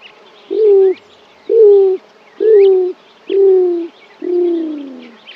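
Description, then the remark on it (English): Five low, hollow cooing notes from a greater roadrunner in a slow, even series, each gently sliding downward in pitch, with a faint chatter of other birds in the background. “Beginning before sunrise, the cooing can be heard up to a quarter mile away, and often elicits a response from a neighboring male.”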